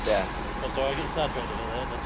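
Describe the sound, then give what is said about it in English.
An old truck rumbles past outside, its engine droning low with a few short whining squeals, fairly steady and moderately loud over about two seconds with faint voices in the background. “that's an old school truck.”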